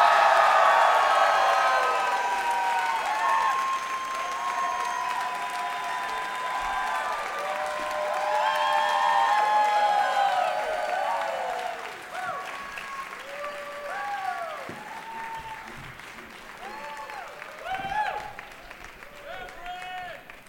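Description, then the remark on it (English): A Seattle audience applauds steadily and loudly as four guests of a comedy show are welcomed, mixed with whoops and shouted cheers as people yell out for their favorites; after about twelve seconds the clapping thins out, leaving scattered individual yells. “People are yelling out for their favorites.”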